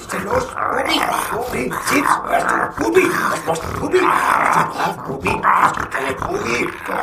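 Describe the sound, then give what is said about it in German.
A dog, Bubi, growls steadily for several seconds, a rough, rumbling snarl with a few sharper yelps, while a person talks at the same time. “Bubi, lass doch mal der Opa gehen. Bubi, bei Fuß, Bubi.”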